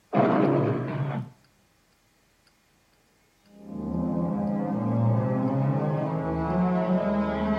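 A lion gives one loud, rasping roar lasting about a second in the Metro Goldwyn Mayer logo, inside a circle of celluloid film strips, opening a 1962 black-and-white film. A short silence follows, then a steady, full droning swell of low tones.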